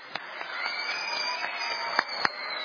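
audience applause and cheering

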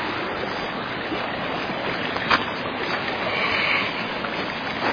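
creek water flowing

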